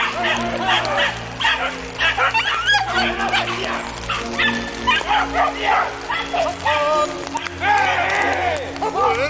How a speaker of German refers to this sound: Die Hunde haben eine Sau! Die Hunde haben eine Sau hier vorne!